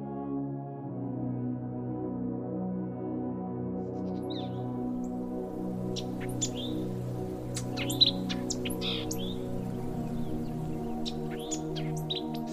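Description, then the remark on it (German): Soft birdsong rises after a few seconds in a jungle at dawn: scattered high chirps and tweets from several birds, fairly faint, over a steady low droning hum that runs throughout. “Die eigensinnige Stille des schwarzen Dschungels bricht durch sanftes Vogelgezwitscher auf.”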